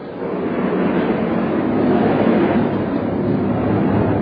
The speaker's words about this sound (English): Hold that thought while the plane flies over here.